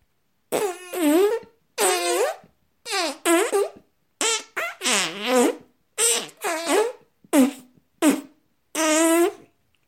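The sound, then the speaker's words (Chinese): A string of loud fart sound effects, roughly a dozen buzzy bursts of varying length with wobbling, sliding pitch, separated by short silences and no voices. “熏屁女郎寻机抓住剑奇的脸，按在屁股上。”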